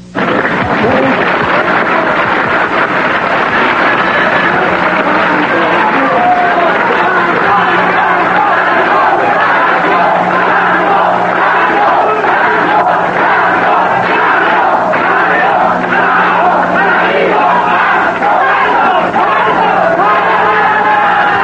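A dense crowd at the burial of El Santo shouts and yells continuously, with scattered clapping mixed into the steady, loud roar of many voices for the whole stretch.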